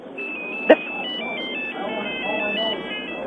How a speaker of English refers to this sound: Yeah, I'd like to, but the phone's interrupted me.